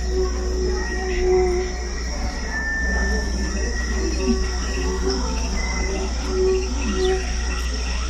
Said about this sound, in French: Tandis qu'un moustique géant nous frotte l'oreille.